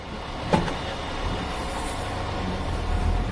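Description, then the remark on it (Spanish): A steady low rumble of idling traffic from cars stopped on a highway in China, with a constant engine hum and a brief sharp knock near the start; no voices are heard. “Te pongo en situación, este sonido, coches parados en la autopista.”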